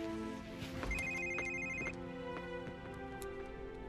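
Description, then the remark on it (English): A telephone rings late at night with a steady electronic warble, its bright tones pulsing in a repeating pattern for a few seconds, clear, with no voices. “Forgive me, Miss Walsh, for calling at this ungodly hour.”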